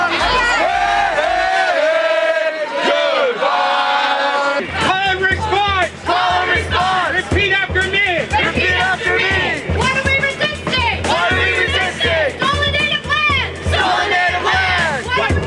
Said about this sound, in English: Event of the day was a family-friendly rally and march titled Take Back Our City, organized by a coalition of groups called the 2010 Welcoming Committee. The evening brought out at least 3,000 protesters representing activists of all stripes